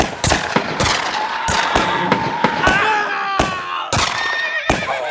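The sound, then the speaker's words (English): A ragged volley of rifle gunshots at night, roughly ten loud, sharp cracks fired in quick, uneven succession at six men, while horses whinny and squeal in high, wavering cries between the shots. “Ten seconds later, 6 men and 2 of their horses lay dead and wounded on the ground. The silence that followed the shooting was eerie and hollow.”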